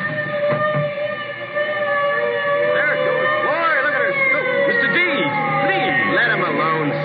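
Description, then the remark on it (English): A fire engine siren wails loudly and continuously, its tones rising and falling, mixed with the murmur of a crowd of voices. “Listen. A fire engine.”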